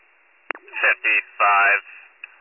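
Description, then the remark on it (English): A click, then three short bursts of steady electronic paging tones sent out by a county dispatcher for a medical call, over a narrow, tinny radio channel, fairly loud, ending with another faint click. “I was sending the tones out.”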